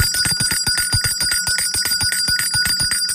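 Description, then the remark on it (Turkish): A rapid, continuous ringing of a small bell, bright and metallic with a sustained high tone, repeating in quick even strikes for a few seconds with no voices. “Zil sesinden sonra benimle bir bardak suyunuzu içmeye ve suyunuzu yudum yudum içerken elde ettiğiniz faydayı dinlemeye hazırsanız işte o zil sesi.”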